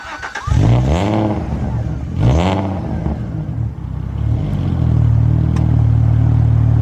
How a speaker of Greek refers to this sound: Εκπληκτικός κινητήρας αυτός. Ο V6 ατμοσφαιρικός γρήγορος κινητήρας. Με άμεση απόκριση. World Fashion κινητήρας. Χαρακτηριστικός ο ήχος του. Έτσι. Αν ακούσει αυτό τον V6 να βρυκάτε, ξέρεις ότι μιλάς για Αλφα Ρωμαίο.